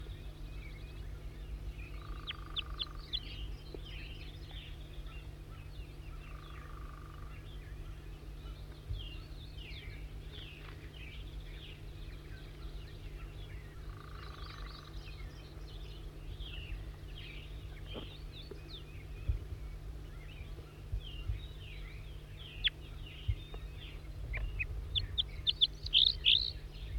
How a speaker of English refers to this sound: It's recording a bird. It's a juvenile. You could see the stripes, and now it flew over. 4-3 gave him some song. I think that was him. And now it's perched in a small white pine here near the net.